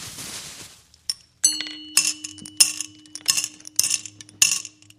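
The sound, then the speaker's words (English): Peanuts from a small package tumble into a glass bottle of Knee-High soda in several uneven bursts of bright clinks and rattles, after a brief crinkly rustle at the start, with a faint steady hum underneath and no talking. “Okay, now open the peanuts and pour them into the soda bottle.”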